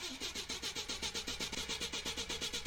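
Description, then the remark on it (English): A rental car's engine cranks over and over in a fast, steady rhythmic churn, fairly loud, without ever catching and starting. No one speaks. “Let's try starting it again.”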